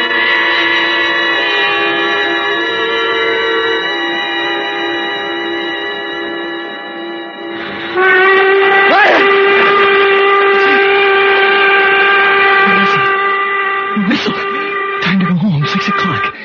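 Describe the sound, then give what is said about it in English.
A loud, sustained train whistle blows with a rich stack of steady tones, shifting to a brighter, stronger blast midway, with brief bursts and rumbling noise near the end. “Slept right through, and the whistle woke me up.”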